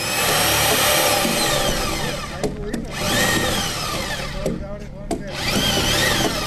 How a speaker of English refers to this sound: They are drilling holes into the first round of logs that will be fastened to the concrete foundation.